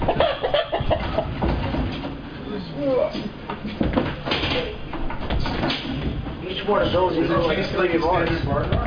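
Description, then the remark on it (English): Chickens cluck in short, scattered bursts, with a busier run of clucking near the end, over people talking and some knocking and handling noises. The chicken is healthy and has green legs. “Yeah, it's a very healthy, nice chicken.”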